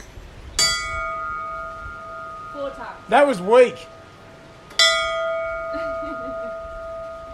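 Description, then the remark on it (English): A large bell is struck twice, each clang ringing out with a long, humming sustain that lingers and fades; a person speaks briefly between the two strikes, and faint voices follow. “I'll just give it a little ding. Four times.”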